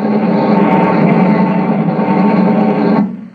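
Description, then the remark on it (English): A new rocket bomb's pulsing engine buzzes as it flies this way in a loud, steady, rasping drone full of harmonics for about three seconds, then abruptly cuts out as its mechanism shuts off just before it lands, leaving a brief fading tail. “A buzzing sound. That's one of the new rocket bombs. Coming this way, too.”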